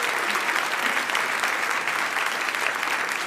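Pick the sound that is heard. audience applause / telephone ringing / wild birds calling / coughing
audience applause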